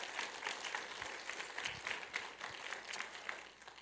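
A large church audience applauds steadily for a pastor, many hands clapping in a dense, sustained wash of sound without pause for several seconds.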